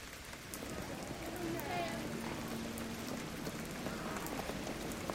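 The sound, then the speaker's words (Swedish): Steady rain patters on a hard city street surface in Copenhagen, around Nørreport and Strøget, on a Thursday in April, a dense hiss of drops that holds level throughout, with a faint low hum of traffic underneath. “En regnig torsdag i april traskar jag ner för Nørreport, ut med vimmelskaftet på Ströget”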